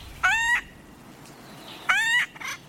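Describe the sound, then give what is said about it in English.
Two harsh, nasal, rising bird calls, acorn woodpeckers, each about a third of a second long and spaced well apart, followed by a brief fainter call at the end. No one speaks. “Acorn woodpeckers are extremely social.”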